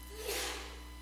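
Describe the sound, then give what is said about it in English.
A single short sneeze, a quick breathy burst of hissing noise that swells and fades within about half a second, fairly soft, with no talking. “Gesundheit”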